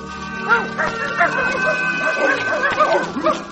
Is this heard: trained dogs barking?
yes